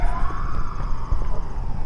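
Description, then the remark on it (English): An ambulance siren wails in the distance as the sun starts to come up, its tone gliding slowly downward over a low rumble of traffic, staying fairly steady in loudness throughout. “Cop car, fire engine, or ambulance.”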